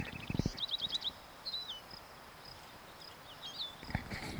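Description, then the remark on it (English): A wild bird calls: a quick run of five or six high chirps, followed by a few separate slurred whistles, fairly faint over a steady hiss, with a couple of low thumps. “Wild bird.”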